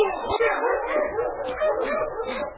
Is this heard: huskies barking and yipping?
yes